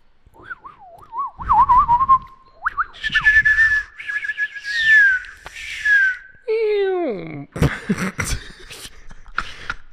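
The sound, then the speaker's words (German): In a forest, someone whistles a string of birdlike calls to communicate with birds: wavering trills, long rising and falling slides, and quick descending chirps, ending in a burst of sharp, choppy squeaks. “Weißt du, dass ich mit Vögeln kommunizieren kann?”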